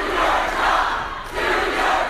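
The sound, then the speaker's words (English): A large crowd at a town hall meeting boos and shouts loudly at a Utah congressman, a dense roar of many voices that dips briefly before swelling again. “Let's hear a congressman who was booed at a town hall meeting this month. It's one of many meetings that have turned raucous.”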